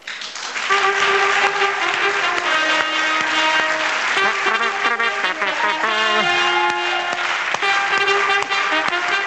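An audience applauds steadily for about nine seconds, a dense, loud wash of clapping with music playing underneath, with no voices.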